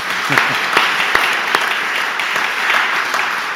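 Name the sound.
audience applause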